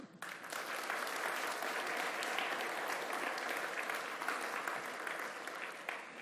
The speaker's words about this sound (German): Und wir freuen uns mit dir, das hörst du im Applaus.